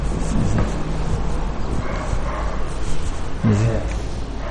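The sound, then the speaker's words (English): A dog barks twice, a few seconds apart, each bark short, set against a steady, noisy outdoor background. “you hear that dog barking?”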